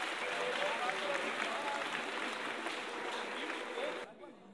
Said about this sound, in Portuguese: Passa, então vamos aplaudir a altura.